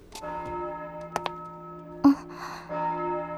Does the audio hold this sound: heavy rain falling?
no